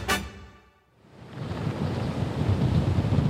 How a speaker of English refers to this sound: It's a very windy morning here on the beach of the seaside town of Costa Azul on the Atlantic coast of Argentina.